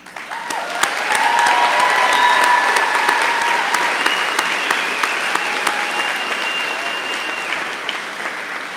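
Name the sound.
audience cheering and applause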